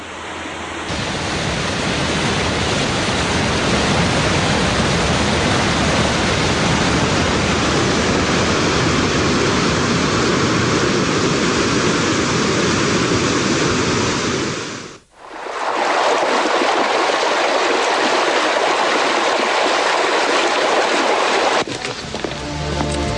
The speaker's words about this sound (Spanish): La zona norte de la isla es la que recoge más lluvia, por lo que tiene gran cantidad de quebradas y torrenteras, que terminan en unos impresionantes saltos como el así bautizado Velo de Novia, por su forma característica.